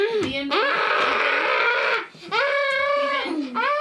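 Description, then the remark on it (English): A child's voice imitates a screaming, crying baby: loud, high-pitched wails in three sustained bursts with brief breaths between, and no other talking. “You sound like you're screaming baby, with a crying.”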